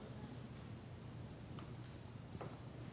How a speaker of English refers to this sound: When I hate to hear the ticking sound of the clock, because every tick means I have one less tick, you know. I have one less second to live.